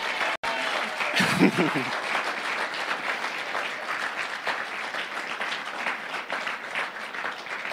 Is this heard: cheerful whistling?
no